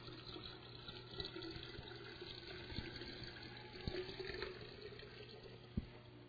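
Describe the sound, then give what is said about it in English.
Water pours steadily into a vessel inside a jar until it is full and overflowing, a continuous splashing trickle with a low hum underneath and a few small knocks. The sound is fairly quiet, and no one speaks. “This vessel then, the last one inside this jar, is full. Overflowing.”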